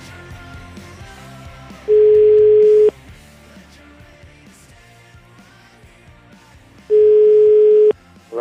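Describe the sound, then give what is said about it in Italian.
A telephone ringback tone plays while a call is placed to Professor Lutwak on the Radio 24 show La Zanzara: two steady, mid-pitched one-second beeps about five seconds apart, loud over quiet background music, with no one speaking. “Facciamo cose serie, chiamiamo Lutwak.”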